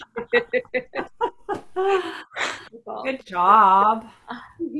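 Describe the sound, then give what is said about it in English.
A person sobs, starting with a run of short, rhythmic gasping breaths that break into longer, wavering, wailing cries. “So yeah, I'm just going to sit here and cry for a while, and that's all right.”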